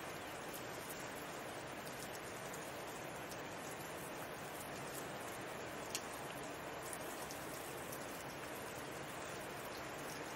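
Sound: roaring river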